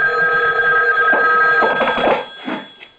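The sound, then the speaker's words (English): A telephone rings in a house late at night with a steady, bright electric bell tone, loud, sounding continuously for a couple of seconds before cutting off, with a faint shuffle afterward. “A phone. At this hour?”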